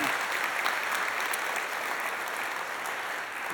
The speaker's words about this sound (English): If you would like to honor him with me, can we give him a round of applause? Because he loves us so well.